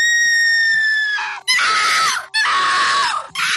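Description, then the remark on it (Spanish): Eerie, ghostly laughter gives way to repeated piercing screams, three loud shrieking bursts in close succession, with no talking. “La risa, los gritos, madre mía”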